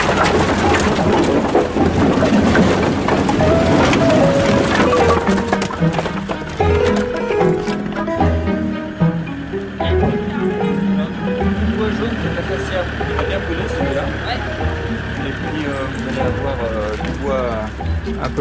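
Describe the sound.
Steady, cold, soaking rain hisses while a firewood delivery of acacia and poplar logs is unloaded in front of a house, with scattered wooden knocks and clatters breaking through. People talk over the work throughout.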